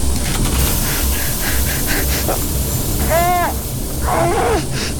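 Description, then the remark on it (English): A loud, steady hiss rushes continuously for several seconds as an airlock is pressurized after the inner door is sealed, matching suit pressure, joined late by two brief, high-pitched warbling squeals riding over the noise. “Start pressurization.”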